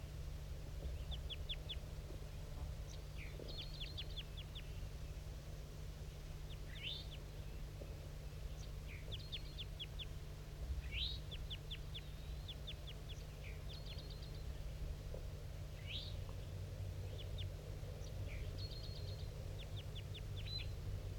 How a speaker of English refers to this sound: So recording at 7:34, still hearing tons of flight calls coming from this bird.